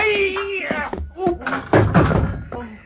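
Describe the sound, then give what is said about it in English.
A sharp knock and a heavy clatter as a sword is knocked from a man's hand during a sword fight, with a few scattered thuds around it and wordless voices underneath, fairly loud. “Oh, the sword is knocked from his hand.”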